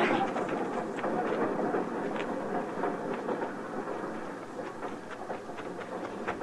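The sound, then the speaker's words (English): A train rumbles steadily past, a dense roar of wheels and carriages with irregular metallic clacks and rattles throughout, loud, gradually easing slightly toward the end. “Get on the train, Flora.”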